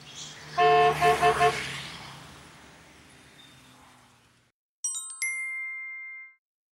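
Busy street traffic with cars, buses, a motorcycle and a lorry: a burst of several quick car horn honks up front, then a steady rumble of passing vehicles that fades out, followed by a few bright chime notes.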